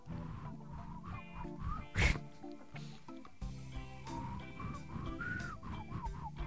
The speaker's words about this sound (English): I can whistle like this too. It's as high as I can get. That's a tongue whistle.